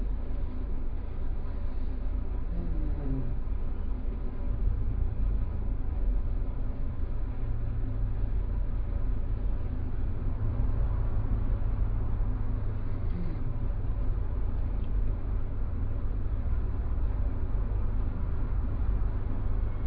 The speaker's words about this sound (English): We can add the sound of the air conditioning.